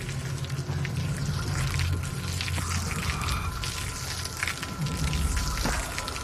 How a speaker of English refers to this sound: In the backyard, she throws a garden hose into the pool with a pump attached. The other end of the hose sprays water into a storm drain.